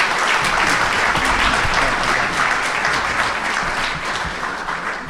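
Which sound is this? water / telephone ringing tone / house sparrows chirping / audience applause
audience applause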